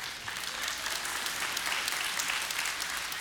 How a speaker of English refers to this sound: That's a good word right there. It's okay to clap.